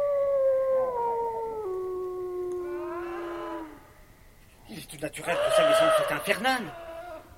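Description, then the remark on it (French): Long, wavering canine howls slide slowly downward, then give way to a louder, rougher burst of yelping and baying from several dogs, the cries strained and unsettling. “Avez-vous jamais entendu des chiens aboyer de la sorte?”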